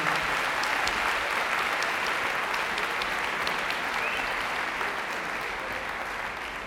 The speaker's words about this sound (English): So before we start, can we give our students one more round of applause? They do an amazing job.